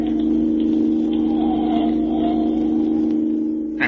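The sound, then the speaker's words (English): A loud, steady car engine drone runs throughout, a deep sustained hum with no pauses, from a car accelerating at speed along a highway and leaving another car behind. No voices are present. “Leaving it behind like it was standing still. This car's got an engine in it, all right.”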